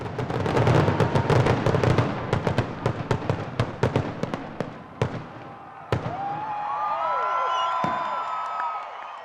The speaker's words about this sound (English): But the 1998 show went ahead. About 20,000 people crammed into and around the memorial. Traffic was backed up for miles. A Pennsylvania company, Zambelli Fireworks, put on a spectacular display.